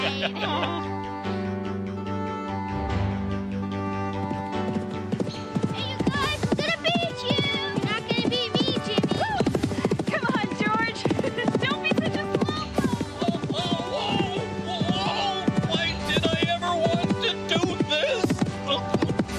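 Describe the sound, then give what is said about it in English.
Horses trot along with a steady, rhythmic clip-clop of hooves, moderately loud, under a busy, lively musical backing with occasional voices. “Come on, guys, let's go ride the horses.”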